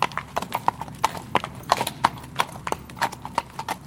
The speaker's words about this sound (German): Es ist inzwischen 10:30. Auf dem Weg zum Gasthaus fährt uns eine Kutsche entgegen.